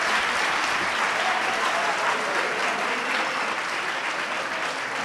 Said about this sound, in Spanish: Se ha acabado el tiempo, chicos. ¡Un aplauso! Pues, un aplauso.